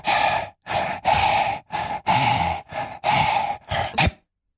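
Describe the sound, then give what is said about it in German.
A person pants rhythmically, about eight loud, breathy huffs of uneven length separated by short pauses, as if breathing out the beat of a song. No talking. “Du wolltest so irgendwelche Lieder hecheln.”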